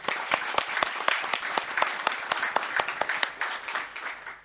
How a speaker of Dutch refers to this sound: Dank u wel. U mag ook een applaus.